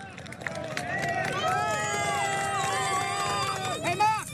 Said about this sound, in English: The noise of an expectant and excited crowd on the streets of Paris as dozens of cyclists speed their way past them during the final stages of the Tour de France.